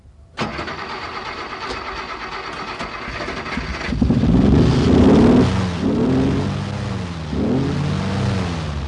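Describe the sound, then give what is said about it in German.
A car engine starts and idles steadily, then revs up and pulls away, heading for Ursel near Konolfingen, its pitch rising and falling through several gear changes. Loud, with no voices. “jetzt ist es aber Zeit zum Einsteigen und Abfahren”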